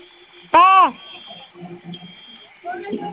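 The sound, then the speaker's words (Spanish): A security alarm gives one short, loud electronic beep with a buzzy, tonal quality after its two fire buttons are pressed together for five seconds. Faint, muffled voices and background noise follow it. “Y va a sonar su clave, su alarma.”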